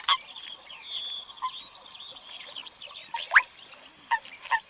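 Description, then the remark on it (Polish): A few short, soft croaking mating calls of a common toad come at irregular intervals at a body of water, against a steady outdoor chorus of high-pitched insects or birds. No one speaks. “Mieliśmy okazję usłyszeć właśnie głos godowy ropuchy szarej.”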